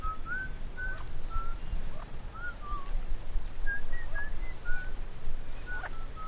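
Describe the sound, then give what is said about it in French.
A series of short, clear whistled notes, some rising and some gliding down, repeating in an irregular, elaborate pattern like a bird call, coming from the interior of an island, over a steady low rumble and a thin high hiss. “Hey, vous entendez cette voix ? Oui, c'est sifflement. C'est peut-être un oiseau. Ça m'étonnerait. Trop élaboré.”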